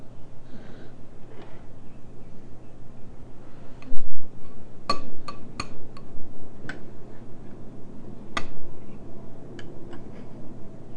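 A metal spoon taps and clinks against the inside of a glass jar as it is put down into the jar, several sharp, irregular strikes over a steady low hum.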